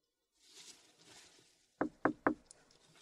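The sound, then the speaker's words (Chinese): Three firm, evenly spaced knocks on the door of an ear-cleaning shop by an arriving customer with an appointment, distinct, following a stretch of soft hissing background noise; no one speaks. “谁啊？我还没叫号呢，敲门了，帮他开门吧。”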